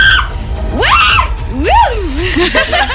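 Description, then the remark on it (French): A voice imitates joyful screams on a fairground ride: three or so rising, swooping shrieks in quick succession, loud, with a low rumble of crowd noise underneath. “Donne-moi trois cris de joie dans un manège.”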